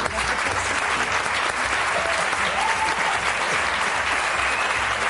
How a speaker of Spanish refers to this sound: Gracias, sí, por venir. Un aplauso.